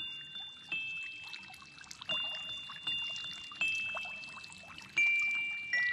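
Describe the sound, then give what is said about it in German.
A fountain splashes and trickles steadily, with bright tinkling chimes ringing out every second or so and fading away, all at a fairly soft level with no voices. “Es war einmal im Märchenland, gleich hinter dem pumperdicken Bullerberg bei den drei alten Kastanienbäumen, ein Brunnen. Und er sang und plätscherte und sprühte seine regenbogenfarbenen Tropfen den Wolken entgegen.”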